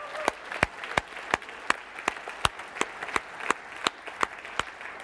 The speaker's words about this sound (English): Let's give our leaders an incredible clap because they did an amazing job.